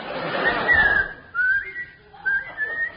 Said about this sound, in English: Whistle, the whistle.